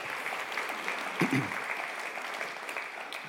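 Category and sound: crowd, audience clapping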